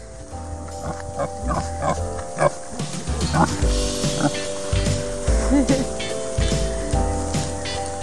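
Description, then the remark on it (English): A series of soft, low grunts and snuffly snorts from kunekune pigs greeting each other and touching noses, repeating irregularly, with some rustling in the background and no talking. “So that's what they do to each other, like they'll greet each other and touch noses and make that sound.”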